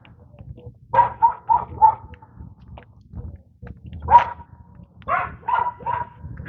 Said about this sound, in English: I think there's a dog there somewhere.